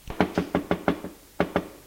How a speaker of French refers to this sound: Elle frappe à la porte.